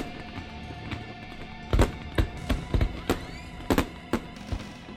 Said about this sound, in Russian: Весь дворец был объят разноцветными огнями. Это был салют в честь новорожденного принца.